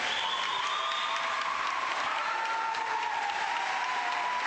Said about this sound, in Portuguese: Vou só dar a oportunidade para que estes músicos possam apresentar e assim retribuir-vos os calorosos aplausos, que de facto vocês são magníficos.